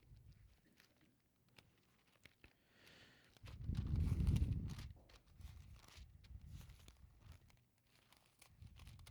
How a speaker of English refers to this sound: One of the best noises in churches is hearing Bible pages turning.